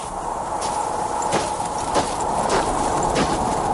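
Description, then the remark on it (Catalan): Steady, regular footsteps crunch over pebbles, about one step every half second or so, against a soft, continuous hiss of wind, with somewhat tired breathing. No one speaks. “So de vent suau, petjades en els que semblen pedretes, respiració un punt cansada...”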